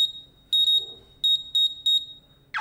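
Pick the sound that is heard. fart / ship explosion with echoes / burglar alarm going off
burglar alarm going off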